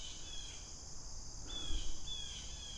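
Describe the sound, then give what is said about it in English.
Birds call repeatedly in thin, high whistled notes, several short bursts over a steady background buzz of insects. No one speaks. “What are those guys complaining about? Those birds are going crazy.”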